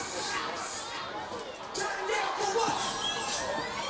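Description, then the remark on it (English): A student section crowd at a football game roars and shouts continuously after a touchdown, a dense wash of many voices that holds steady and swells a little louder partway through, with occasional higher yells poking out. “As the student section once again is not turning down after that touchdown.”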